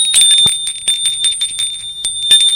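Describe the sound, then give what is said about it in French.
The front doorbell of a home rings continuously in a bright, shrill, steady tone with a faint rattling buzz, loud, lasting a few seconds with no one speaking. “Il sonne à la porte d'entrée.”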